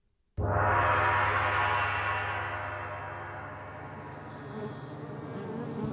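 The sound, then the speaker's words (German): A dense, steady buzz of many busy honey bees swarming about starts abruptly and continues loud, a droning hum with slight swells in intensity and no voices. “Schau dir die Bienen an. Wie geschäftig sie sind, die fleißigen Arbeiterinnen. Sie schwirren umher und gönnen sich kaum eine Pause.”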